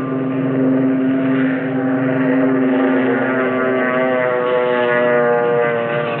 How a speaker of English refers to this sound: This is the Akagi. This vessel carries up to 60 combat planes. Step back, please. That torpedo bomber is taking off.